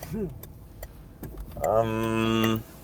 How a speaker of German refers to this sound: Da kam ein Auto, ups, aber auch viel zu schnell. Ist nicht 50 gefahren, mein Freund.